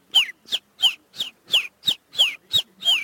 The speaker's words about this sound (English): In that respect, I'm talking about something like the chiff-chaff, which says its name.